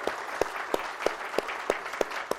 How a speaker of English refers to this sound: Well, guys, I would like, if you could, go ahead and give Mel a round of applause for being willing to share with us today. Amen.